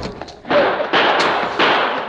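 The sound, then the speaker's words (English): A sergeant kicks a door open in a tunnel: a few soft knocks, then a loud, heavy thud that bursts into a sustained crashing clatter, with further banging impacts over about two seconds. “He kicked the door open and blasted the lantern from the table beyond it.”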